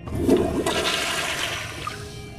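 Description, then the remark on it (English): A toilet flushes, a loud rushing gush of water that swirls and drains steadily over a couple of seconds, with no voices. “Oh, yes, there's nothing better than sitting on a gold-plated toilet seat in the middle of the ocean to make you feel important.”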